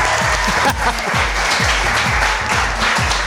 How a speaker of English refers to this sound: Wow. Hey, that's more than a smattering. More than a smattering of applause. Wasn't it? That was really good. Okay, it was great. Share Funny Live, and we are at Char Bar 7, your neighborhood bar and grill in Mint Hill, North Carolina.